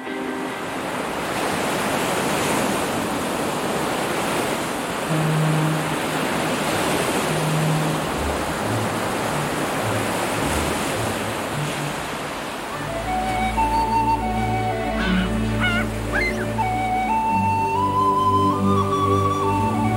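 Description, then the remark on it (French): Steady rushing surf and wind of the sea at Bréa, an island in Brittany, fill the first part, a broad, loud wash of noise with no voices; after a while orchestral music from the Lord of the Rings soundtrack rises over the sea sound. “Le vent, la mer de Bréa, la bande-son du Seigneur des Anneaux, votre vie rêvée, c'est ça?”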